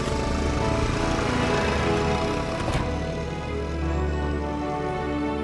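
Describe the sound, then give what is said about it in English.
A moped's small two-stroke engine buzzes steadily and loudly throughout as a helmeted rider drives off on it, its rough droning tone dipping slightly partway through. “Liz climbs on the moped.”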